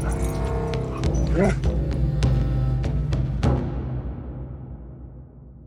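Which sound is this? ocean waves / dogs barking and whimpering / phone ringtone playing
dogs barking and whimpering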